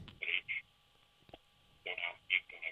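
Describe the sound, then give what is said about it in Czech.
The first telephone call comes through on the line, with tinny, band-limited bursts of sound and a faint muffled voice over a thin, quiet connection hum. “máme tady první telefonát.”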